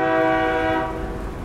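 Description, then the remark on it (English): A loud train horn blares with a steady harmonic tone over the low rumble of a passing train in cold, rainy weather, then fades to rolling rail noise. “Just like every other day, I was waiting on the train.”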